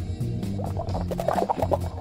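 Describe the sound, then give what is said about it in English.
Water gurgles through a smoking pipe as someone takes a quick hit, a quick run of burbling pops, with a low steady hum beneath and no one talking. “We got some bubbling going on.”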